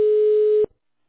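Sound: telephone ringback tone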